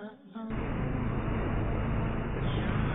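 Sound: tractor engine running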